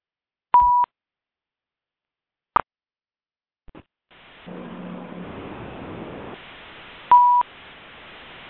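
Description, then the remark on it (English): Two short electronic keypad beeps as a phone is unmuted on a class conference call so listeners can ask questions, then a click and a stretch of muffled line noise, followed by another beep. No one speaks. “I'm going to unmute the phone so that you may ask questions.”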